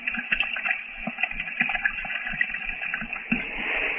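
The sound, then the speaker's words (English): Rushing water pours steadily like a waterfall, a curtain of water at the entrance of a mummy cave, a dense continuous roar with irregular splashing surges, fairly loud, with no voices. “Do you not think, D'Arno, that we might make an effort to get out as we entered through the curtain of water?”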